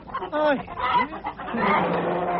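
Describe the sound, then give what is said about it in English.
Hens cluck and squawk loudly, a few sharp rising-and-falling cries followed by a dense, agitated flurry of clucking. “How would you like it if people came disturbing your hens in the middle?”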